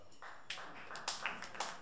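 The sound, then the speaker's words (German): A few scattered, quiet claps from an audience, landing irregularly over a soft hum with no one speaking. “Jetzt vielleicht, wie machen wir das mit Klatschen?”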